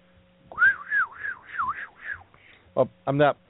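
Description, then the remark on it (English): A person whistles a wavering tone that rises and falls in about five smooth swoops, steady and fairly loud, followed by a couple of short vocal bursts, imitating the up-and-down whistle sound played to plants. “But basically, the only thing the plants will hear is this whistle that goes up and down like this.”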